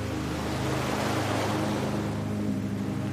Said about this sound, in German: Auch unsere Schildkröte kämpft sich weiter. Dann kommt die nächste Welle.